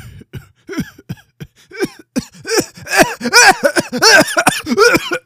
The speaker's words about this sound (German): Ja, mit dem Husten von Onkel Vernon soll jetzt eine dramatische Stimmung aufgebaut werden. Wir haben jetzt alle Angst.